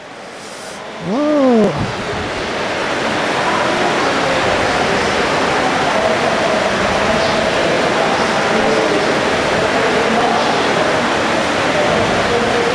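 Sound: heavy rain falling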